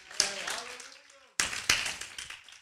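A crowd at Criswell College claps hands together in a dense, steady wash of applause during a sermon, broken by a brief pause before resuming with sharp, loud claps; faint vocal sounds ride underneath.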